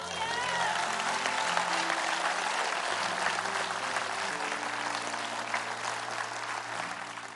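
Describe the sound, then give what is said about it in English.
An audience claps hands for Jesus after a prayer, in sustained, dense applause for several seconds, loud and steady, with a low sustained musical tone humming underneath. “In Jesus' name, I sit right there and give him a great hand clap.”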